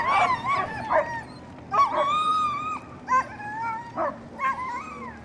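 Several sled dogs bark, yip and whine excitedly in repeated bursts while being harnessed to a sled, with high drawn-out whimpers between sharp barks, loud against a steady outdoor background.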